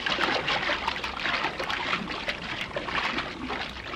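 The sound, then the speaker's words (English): Steady splashing and churning water as someone swims away from an island in darkness, taking a rubber boat along, with a continuous wash of sound and small irregular surges throughout. No voices are heard. “Swim away from this island and take that rubber boat with you.”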